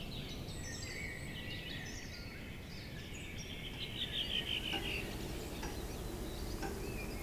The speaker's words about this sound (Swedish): Jag hade under årens lopp helt glömt att fåglarna håller på så där när det blivit vår och varmt. Flyttfåglarna är glada när de nått fram.